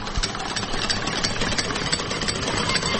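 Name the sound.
car engine idling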